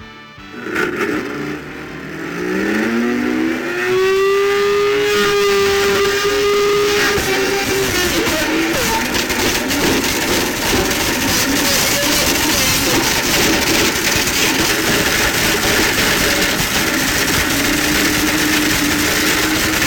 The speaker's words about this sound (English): So I'm going to blend it. Also, it doesn't fit in a blender. So I'm going to do a … on it. I'm going to take this Blendtec blender to 11.